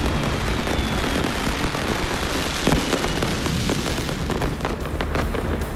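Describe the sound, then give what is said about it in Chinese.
Fireworks burst and crackle over the river in Wuhan during a New Year celebration, above a steady roar of background noise. Several sharp pops cluster toward the end, and the bangs are continuous rather than isolated. “璀璨烟花之下，朱一龙和武汉市民沿江奔跑。”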